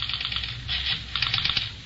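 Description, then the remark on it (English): A telephone number being dialed on a phone in a study: quick, irregular bursts of dry mechanical clicks and clatter, moderately loud, with no voices, running in short clusters for about two seconds. “And then Ralph dials a number on the phone.”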